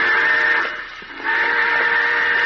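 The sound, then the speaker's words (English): A loud, sustained train whistle sounds a steady, high-pitched chord, softening briefly near the middle before swelling back to full strength. No one speaks. “Hey, the train!”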